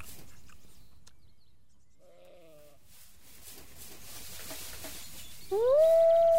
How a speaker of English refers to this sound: Oh, the babies aren't babies. What are they? They are wolves. They are big wolves.